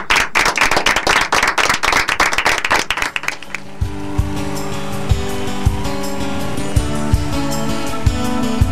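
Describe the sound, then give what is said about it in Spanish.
A burst of loud, dense audience applause closing the Jóvenes en Acción program lasts about three seconds, then fades as steady music with a regular beat takes over. “Con un aplauso, terminamos porque apostamos a la vida.”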